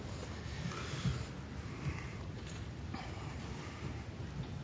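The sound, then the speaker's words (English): Steady rain hisses continuously at moderate volume on a cloudy day, with a deep low rumble underneath and a few slightly louder swells. No one speaks. “Grateful for the rain.”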